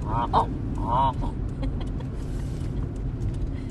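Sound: geese honking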